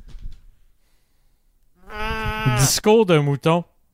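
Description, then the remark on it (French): A person imitates a sheep with a long wavering bleat followed by three short, choppy bleats, loud, after a brief faint rustle and near silence. “Discours de mouton.”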